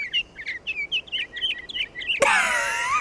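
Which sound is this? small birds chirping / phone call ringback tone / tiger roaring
small birds chirping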